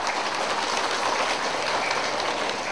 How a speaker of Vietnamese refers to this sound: Nên sau khi thời chia sẻ giáo lý này thì các em học sinh có hai cái tiết mục. Tiết mục thứ nhất là tiết mục văn nghệ múa, tiết mục thứ hai là hát bằng tiếng Campuchia. Xin quý vị cho một tràng pháo tay ạ.